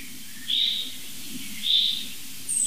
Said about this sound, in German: Also das ist jetzt für mich eindeutig so ein Alarmmuster jetzt. Es sind immer drei Vogelarten interessiert. Boah, das holt sie wieder mal schärfer.